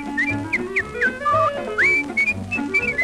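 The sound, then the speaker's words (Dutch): Someone whistles a bright, bouncy melody of short gliding notes, clear, over a soft musical accompaniment. “Als hij fluit, klinkt er een vrolijk lied.”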